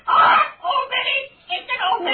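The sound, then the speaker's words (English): A blackbird, Old Minnie, squawks harshly in three or four raspy, voice-like bursts with short gaps between them, loud and fairly continuous over a couple of seconds. “That nasty blackbird.”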